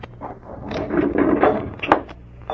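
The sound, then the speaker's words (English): A wooden window is pushed open at night, a rough scraping slide lasting over a second and ending with a sharp knock as it settles. “Mind if I open a window for a few minutes?”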